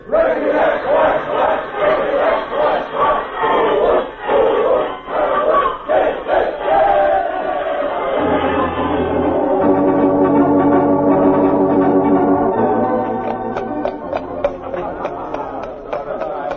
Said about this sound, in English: Here's the team, gang. Let's have a cheer for them. One, two...